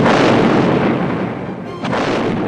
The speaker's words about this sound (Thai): ระเบิดไม่ได้ผลสินะครับงั้นเจอนี่หน่อยระเบิดเอาไปอีกลูกนึง